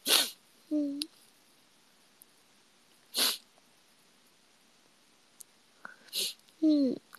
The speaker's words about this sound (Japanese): やばくしゃみしそう。